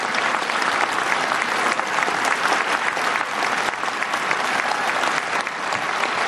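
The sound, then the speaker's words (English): Sustained, loud applause and a standing ovation from a large crowd during the president's remarks, a dense steady wash of clapping that never lets up for the whole stretch, with no voices breaking through. “Trent, I wanted to play that, Trent, because the applause goes on. That was the longest applause. He got a standing ovation.”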